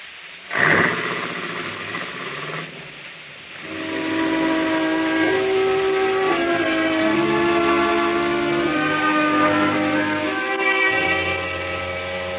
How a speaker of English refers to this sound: You know, if you think of it the right way, even the sound of a factory whistle is mighty pretty.